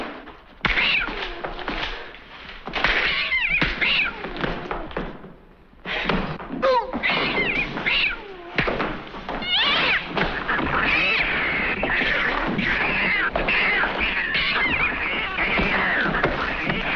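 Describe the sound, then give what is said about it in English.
Loud, chaotic cat yowls and screeches in a frantic back-and-forth, with scattered thumps and scuffling, used as the sound of a fight involving Ginger Rogers in a film, barely pausing. “Like literally, there's literally a fight where Ginger Rogers is fighting and all you hear is like the sound of cats.”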